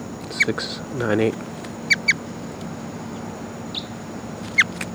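Calls of a wild crossbill: a handful of short, sharp chip notes, one alone, then a quick pair, then another, rising clearly above a steady background hiss with a brief low murmur early on.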